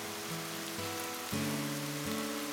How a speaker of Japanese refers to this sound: 色彩の薄い景色の中で道路脇に植えられた紫陽花が鮮やかに咲いている。緑の葉とそこに散りばめられた淡い青やピンクの花、それは雨しずくが当たるたびにまるで息をするように葉を上下させた。